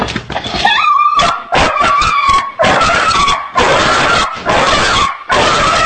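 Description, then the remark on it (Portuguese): A dog whimpers and yelps in distress after fireworks, having its tenth seizure; high, wavering whines come in rapid, almost continuous bursts with brief gaps, fairly loud throughout and with no voices. “Olha como é que ele fica depois. Só os ataques que dá nele.”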